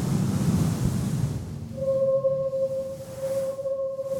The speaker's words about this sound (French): Un vent fort s'abattit sur eux.